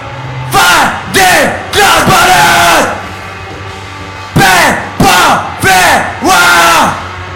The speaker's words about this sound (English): You want me to scream? Yeah, scream again.